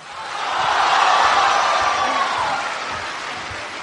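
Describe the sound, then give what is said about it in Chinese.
A large audience at a closing ceremony claps steadily to welcome Guo Degang and Yu Qian to perform the classic piece 'Wen Wu Shuang Quan', a dense, hissing wash of applause that swells within the first second, holds strong, then eases slightly toward the end without stopping. “今天的闭幕式现场，最后郭德纲、于谦二位老师兼联手呈现这段经典，掌声有请 文武双全。”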